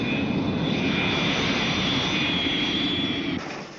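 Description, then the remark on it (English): A U.S. Air Force jet aircraft takes off at an airport, roaring loudly and steadily with a high turbine whine over the rumble, then the noise drops off abruptly near the end. No voices. “A U.S. Air Force jet takes off.”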